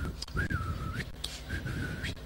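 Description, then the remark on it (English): A man whistles two long, steady notes while taking a bath in the bathroom, each note sliding upward at the end, fairly loud over a low rumbling background with no one talking. “Some are in the bathroom for 1 hour and they are blowing whistle as they are taking their bath.”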